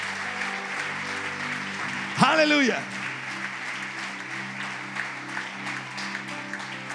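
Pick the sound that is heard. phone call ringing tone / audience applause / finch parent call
audience applause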